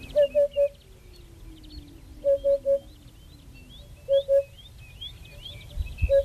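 A Eurasian hoopoe repeats its soft, hollow 'oop-oop-oop' call in short groups of three, evenly spaced every couple of seconds, while other birds chirp and twitter faintly in the background.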